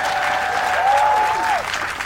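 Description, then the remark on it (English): An audience at Vulture Fest claps steadily for about two seconds to thank Titus, a dense, even patter of many hands, with a sustained whistle-like tone rising above the applause partway through. “Your claps out.”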